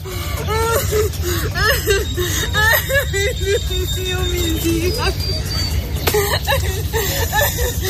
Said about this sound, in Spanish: Es el llanto de una mujer joven de unos 40 años delante de las cámaras de varios periodistas. No llora de tristeza, sino más bien de alivio, porque acaba de pisar tierra seca tras cruzar la última barrera de su odisea,